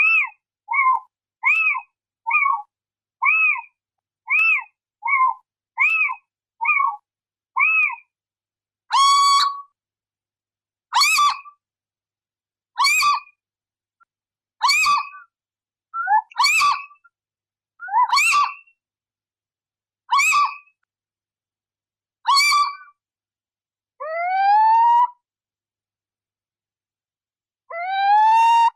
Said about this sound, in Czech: Slyšeli jste sýčka obecného